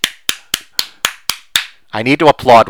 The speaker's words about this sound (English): There's an intelligent comment. Hooray for One Leaf. I need to applaud One Leaf.